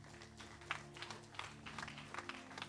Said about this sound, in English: That's why every day I always thank God for Kenneth Hagin. Let's give Brother Hagin a clap offering.